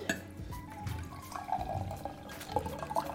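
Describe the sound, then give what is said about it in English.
A shaken cocktail is poured steadily into a glass for a few seconds, a continuous splashing trickle with faint gurgles and drips, and no one speaking. “All right, let's pour that into it.”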